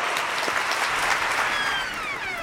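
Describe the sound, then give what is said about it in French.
Sustained audience applause for Ernest-Antoine Seyer, founder of MEDEF, at an event celebrating 20 years of MEDEF: a dense steady wash of many hands clapping at even loudness for a couple of seconds, easing slightly toward the end, with no voices over it. “Et c'est l'occasion pour moi de saluer le fondateur du MEDEF, Ernest-Antoine Seyer, que je vous demande d'applaudir.”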